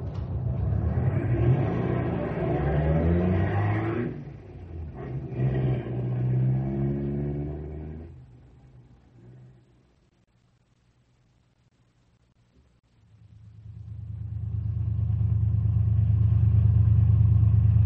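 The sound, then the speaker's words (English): Car engines being warmed up rev and rumble, rising in loud bursts, then easing off to near quiet before a deep, steady engine roar swells back up and holds. “Sounds like they're out to warm up their cars, not burn them up.”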